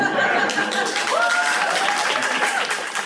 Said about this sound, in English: So one of the things that I wanted to say is, in case you couldn't tell from the cheering crowd, a lot of people want to hear about Ohlone history.